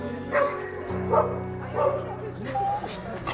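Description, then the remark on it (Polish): Dogs in shelter kennels bark in a steady series of short woofs and yips, about one every second, followed by a high, drawn-out whimpering whine near the end. “się dzieje z tymi wszystkimi psami, że siedzą w tych kojcach i ciągle płaczą, to strasznie szkoda nam się ich zrobiło”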